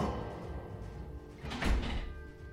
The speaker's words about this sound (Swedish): Är det The Switch? Var är det The Switch som knackar på dörren? Ja, det lät som det.